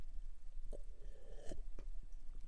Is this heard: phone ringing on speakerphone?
no